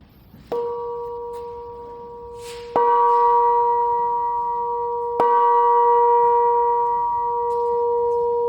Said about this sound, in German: Wir haben hier eine Glocke, die wurde gegossen für die Landesgartenschau in Apolda. Die war aufgehangen im in Gottes Gartenhaus. Und jetzt darf die bei uns hängen und unseren Eingang zieren.